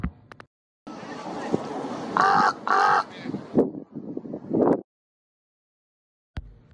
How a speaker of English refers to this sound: Ooh, and did you know that caw-caw sound? That'll be a crow. Ravens make more of a croak sound in their call.